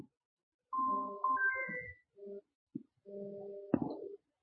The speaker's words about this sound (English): Whose phone is that? The phone off there?